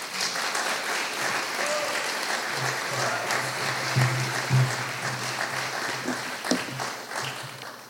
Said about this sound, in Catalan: Senyores i senyors, un aplaudiment per la presidenta de la Comissió de Carnaval